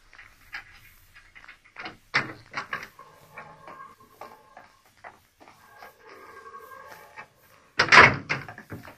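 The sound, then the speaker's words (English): A heavy corridor door in a prison is unlatched and swung open, with metallic clanks, a drawn-out creaking scrape, and a loud clunk near the end. “Open the corridor door”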